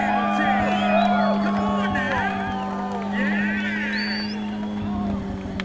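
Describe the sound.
A car with its exhaust pipe exiting out the side does a tire burnout: a loud, steady engine roar holds under a continuous, warbling squeal of tires spinning in place, with faint crowd voices in the background throughout.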